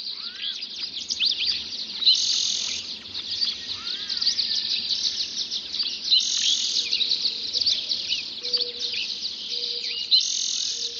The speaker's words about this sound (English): There is a hidden order in the cacophony of song. The first birds to sing are usually the ones perched highest in the tree canopy. They are the first to see the sun. The birds lower down join the chorus as the light reaches deeper into the canyon.